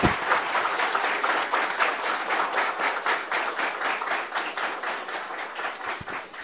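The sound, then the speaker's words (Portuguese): Steady applause from a group at the swearing-in of the city councillors of the municipality of Arroio do Meio. Many hands clap in a dense, continuous patter that holds an even loudness for several seconds before easing slightly at the end. “Uma salva de palmas.”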